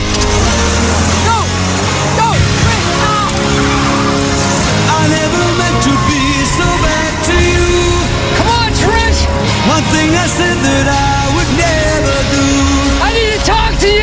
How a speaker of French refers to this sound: le plus grand tube …, vient illustrer le climax de l'intrigue amoureuse